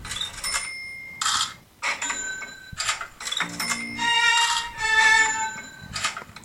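Bright metallic cash register ka-chings ring out several times in quick succession, sharp bell-like dings with clattering mechanical clicks between them and a low tone briefly underneath.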